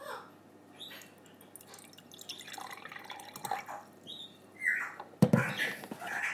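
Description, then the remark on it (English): Water fizzing and crackling as it is carbonated, a busy mix of small pops, drips and gurgles, then a louder burst of hissing and bubbling near the end. No voices. “It can sound very fizzy, doesn't it?”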